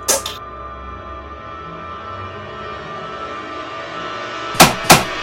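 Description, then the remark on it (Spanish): A sharp slap rings out at the start, then after a pause two quick smacks land in succession as a bug is swatted with a rolled-up Cinemanía magazine after glue is put on it. “Echa el pegamento y le pego con la cinemanía.”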